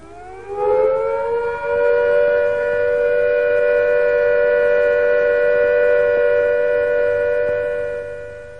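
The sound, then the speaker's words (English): A civil defence siren winds up and then holds one loud, steady, unwavering note for several seconds, the all-clear signal that the immediate danger of air attack or fallout has passed, sounding alone with no voices. “When the immediate danger of air attack or fallout has passed, the siren will sound a steady note like this.”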